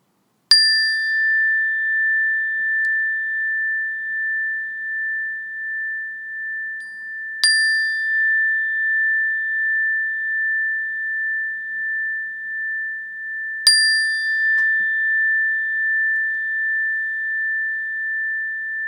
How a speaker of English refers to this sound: in a moment, I'm going to ring this meditation bell.